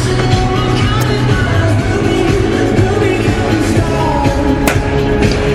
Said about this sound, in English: In a moment, you're going to get a feel of just how loud the puck gets banging off the boards as you get ready for shoot around.